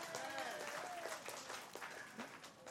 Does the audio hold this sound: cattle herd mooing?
no